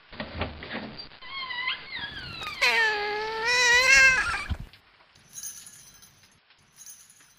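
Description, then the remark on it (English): A cat lets out a long, drawn-out meow that rises and wavers, loud, then breaks off into quiet with a few faint clinks. “You and your kitty stay here, and I'll go in and get it.”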